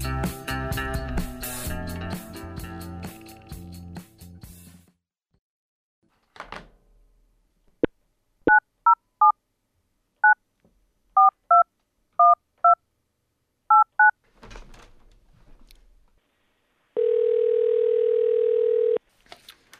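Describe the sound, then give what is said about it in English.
A series of short, evenly spaced telephone keypad tones beeps out a number as a phone call is placed, followed by a steady, loud dial tone, after a brief burst of music fading out at the start. “up next is a phone call I recorded”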